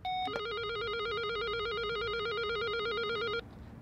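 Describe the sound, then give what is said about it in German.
An electronic doorbell at the Munich police (Polizei München) is rung by radio reporters, giving a rapid, warbling two-tone trill that holds steady for about three seconds before cutting off abruptly. It is loud, with no voices over it. “Und als erstes klingeln wir jetzt mal.”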